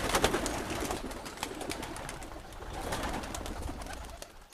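A flock of pigeons coos steadily, their soft, throaty calls overlapping with rustling and fluttering wings in a continuous, busy wash of sound.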